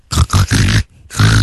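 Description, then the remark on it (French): A person imitates a pig, making four loud, rough grunts and snorts. Three come in quick succession, then a short pause before the last. “Moi, je peux te faire le cochon, si tu veux.”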